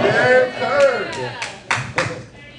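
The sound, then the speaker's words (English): A handful of sharp, scattered claps ring out at an uneven pace as a late-arriving crowd comes in on senior night, while a voice talks over them, the claps growing slightly louder toward the end. “The crowd's coming in right now.”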